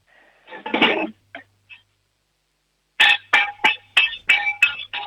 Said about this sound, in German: Oh, das wird schon mal ein Kochtopf gewesen sein. Jetzt brauchen wir noch einen Löffel.